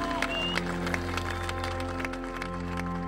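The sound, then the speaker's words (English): A crowd cheers and claps continuously as daredevil flyer Charles makes a perfect landing, a dense wash of applause and excited voices over a steady low droning hum, fairly loud throughout. “The crowd roars with delight and rushes to meet Charles as he makes a perfect landing.”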